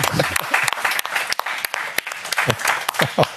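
Audience applause for a show guest: dense, steady clapping from a crowd that fills all three seconds, loud, with a few voices calling out beneath it.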